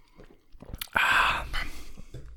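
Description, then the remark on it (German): Drinking sounds as red wine, a Ramon Bilbao Reserva, is sipped from glasses raised in a toast to the dead: soft mouth noises, then a loud wet sip lasting about half a second, followed by quieter swallowing and lip sounds, with no talking. “Und wir erheben jetzt unser Glas an Gedenken an die Verstorbenen.”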